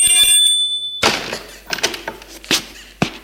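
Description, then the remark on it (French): A bright, high-pitched electronic doorbell rings for about a second, followed by several dull thumps and clatters like a door being handled. “Charles sonne.”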